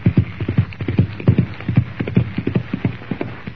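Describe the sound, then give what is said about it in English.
A horse gallops with a quick, steady clip-clop of hooves as its rider spurs it on and rides into the darkness, the beats coming in rapid rhythmic clusters at fairly even loudness throughout, with no voices. “Lashing the sharp rowels of his spurs into his horse's flanks, Chuck Connors rides into the darkness”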